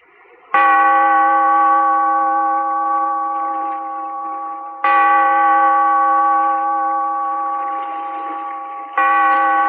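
A deep bell, tolled by a bellkeeper to open The Weird Circle, rings three times, slowly and about four seconds apart. Each loud stroke rings out with a long humming decay before the next. No other sounds.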